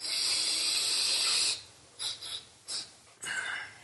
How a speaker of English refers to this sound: … snorts a line.